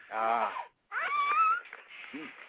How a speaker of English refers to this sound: Is that a kid? I heard a kid in the bedroom. Yeah, I don't know. There's some, like, weird noises coming out of there. There's a dog. There's a kid.